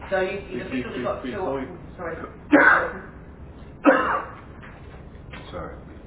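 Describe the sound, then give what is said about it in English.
Two short, muffled coughs about a second apart, fairly soft, from someone coughing quietly in the corner, with a person's indistinct talking before and between them. “Coughing quietly in the corner.”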